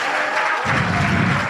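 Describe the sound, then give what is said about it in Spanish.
A crowd applauds steadily, a dense wash of many hands clapping at once, with a deeper rumble of cheering or movement swelling in partway through, as a preacher at a religious gathering calls for applause because Jesus is good. “Denle un aplauso, que Jesús es bueno.”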